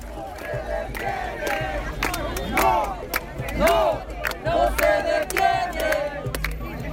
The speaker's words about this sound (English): There was a lot of singing, there was a lot of shouting, there was a lot of enthusiasm and defiance and people saying, well, it didn't happen on Tuesday, but, you know, let's keep going.